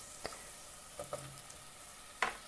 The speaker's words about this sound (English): I'm just chucking in chunks of courgette here. A bit more onion. Some peppers. Got a nice good sizzle going on there.